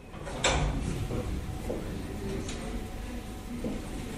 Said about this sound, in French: qui pousse la porte d'un institut de beauté spécialisé.